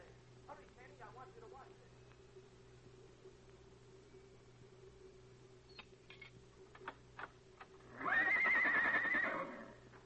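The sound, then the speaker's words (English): A horse lets out one loud whinny with a wavering, quavering pitch near the end, preceded by scattered knocks and clicks over a steady low hum. “You're going to meet a lot of nice horses this morning”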